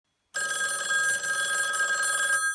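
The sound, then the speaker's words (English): The bell of an old red telephone made of very hard plastic rings continuously for about two seconds, a bright metallic jangle with sharp high overtones, fairly loud, then stops abruptly. No one speaks. “Well, there it is. The phone that I remember the most. It was made of very hard sort of plastic.”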